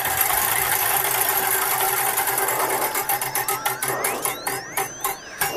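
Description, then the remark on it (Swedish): A prize wheel, spun to pick which ride to go on, turns with a rapid, steady ratcheting clatter that gradually slows into distinct, spaced-out ticks as it winds down, with a rising tone near the end and no voices. “men vi ska snurra på ett hjul nämligen”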